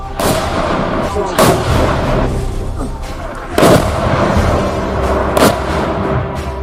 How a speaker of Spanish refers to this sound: No en vano, a los tanques les precede una tormenta de artillería que lo machaca todo.